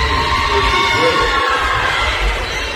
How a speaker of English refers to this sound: Student section is still cheering. All the good things that happen over for Tawas.